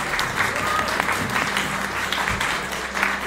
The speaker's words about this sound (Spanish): Un aplauso que viene desde Oaxaca.